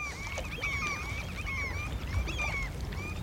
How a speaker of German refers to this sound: Möwen ziehen ihre Kreise unter dem blaugrauen Himmel. Vom Meer her weht eine frische Brise, die Jollen und Yachten auf den Wellen wippen lässt.